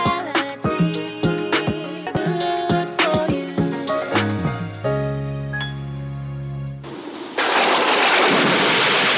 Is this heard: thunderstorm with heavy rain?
yes